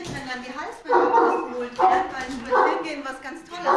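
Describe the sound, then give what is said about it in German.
The Irish wolfhounds Kaya, Don and Einstein barking at a family home in Driedorf in the Westerwald: about four loud, deep barks spaced roughly a second apart, each with a rough, throaty edge and short pauses between them. Don, the largest, stands 91 cm at the shoulder and weighs about 70 kg. “Kaya, Don und Einstein sind irische Wolfshunde.”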